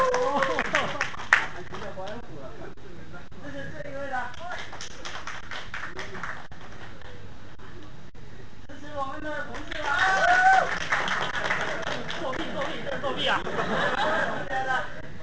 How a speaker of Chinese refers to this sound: 投票， 我们是不是要转过去？ 不是， 鼓掌。 这是这位的，鼓掌。这是第二位的，鼓掌。这是第三位的，鼓掌。